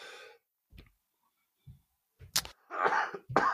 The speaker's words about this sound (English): No. I've had this cough and it's just terrible. I don't think I have pneumonia anymore like I did a month ago.